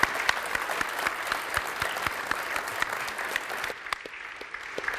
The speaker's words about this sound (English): Would you please turn around? Let's welcome our new members by applauding our...